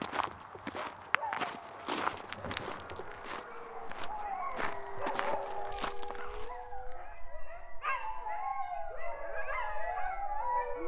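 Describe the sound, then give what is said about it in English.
Footsteps crunch briefly on a gravel footpath, then a chorus of many kennel dogs breaks into howling, overlapping wavering howls rising and layering until the whole pack is howling together, fairly loud, at a kennel near the Talkeetna Mountains. “There was a serene lake to my left, and then the howling began.”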